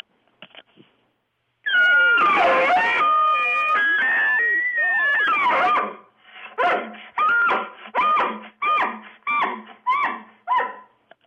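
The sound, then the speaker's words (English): A 5-year-old child, a World Elk Calling Championship winner, imitates an elk call: a long, high, wavering bugle-like wail, then about seven short, sharp rising whoops in a steady rhythm. No talking. “What's your favorite elk call to do?”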